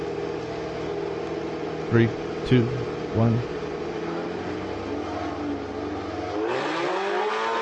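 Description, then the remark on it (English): A Honda race car engine hums steadily while voices count down, then the revs climb sharply into a loud, rising whine as it accelerates away, reaching about 115 miles per hour. “Okay, he's revving up. There he goes.”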